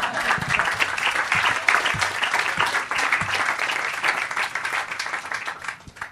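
An audience applauds steadily, a dense, crackling wash of many hands clapping at once that stays loud throughout and begins to thin out in the final second.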